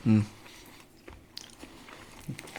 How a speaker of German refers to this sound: Ich noch ein bisschen kauen, ne? Das ist aber lecker. Das ist echt schon gut. Das riecht auch cool.